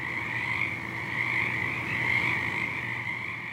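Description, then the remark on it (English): A dense chorus of many frogs of different species, including green tree frogs, calling at once in February, an unbroken wash of overlapping croaks and trills at steady loudness with no voices. “That's not just green tree frog singing. That's a whole bunch of different frogs singing.”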